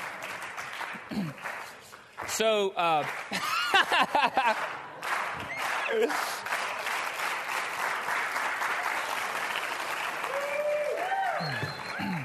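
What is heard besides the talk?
slow clap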